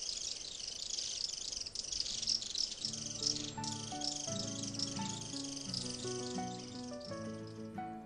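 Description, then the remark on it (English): A mountain bird's daytime warning calls, sung to warn that somebody is hiding, ring out as rapid, repeated high chirps throughout, steady, while low sustained musical notes join in underneath after a few seconds. “is a bird that sings during the day in the mountains to warn that somebody is hiding”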